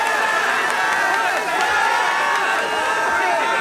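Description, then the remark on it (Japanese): A large live crowd at a Namco Pro thanksgiving live concert cheers continuously, a dense wash of shouts and high-pitched voices filling the space with steady, loud excitement and no break. “はい、毎度毎度のご声援ありがとうございます。”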